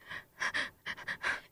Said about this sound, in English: Why are you breathing into the mic? Oh, I didn't even have it on.